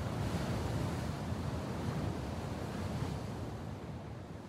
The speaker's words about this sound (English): The teal green sea churns below.